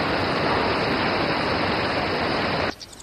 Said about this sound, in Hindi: मुझे हमेशा से झरना बहुत अच्छा लगता है, मुझे बहुत सुकून मिलता है।